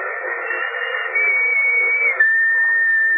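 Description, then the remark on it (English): A long, steady whistle tone held for about three seconds over a hissy, band-limited background. It shifts slightly in pitch partway through and gets a bit louder toward the end. “Remember that whistle?”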